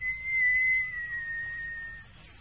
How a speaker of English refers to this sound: I'll give a whistle, if I may. Yes, go on. Whistle away.